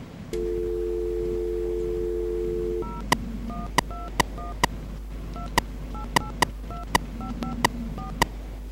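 A steady dial tone hums for a few seconds, then a quick series of about eleven clear keypad beeps follows at an uneven pace as a number is dialed on a phone being tested, distinct.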